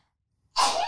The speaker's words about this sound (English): I usually sneeze. Like I just made that cute on purpose. I'm cute. I made it cute on purpose. Normally I'm like, so gnarly.